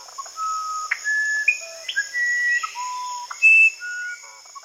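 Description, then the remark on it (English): A musician wren sings a slow series of clear, pure whistled notes, each held briefly at a different pitch, with a steady insect drone humming in the background. “It also includes a recording of one of the most beautiful bird songs on the planet, the musician wren.”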